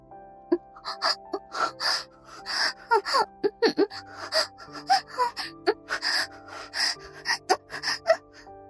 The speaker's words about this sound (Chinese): 一波又一波强烈的性快感冲击得他不停的呻吟，声音越来越大，喘息越来越重，不时发出无法抑制的娇呼。